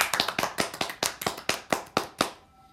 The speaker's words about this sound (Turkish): Alkışla o zaman.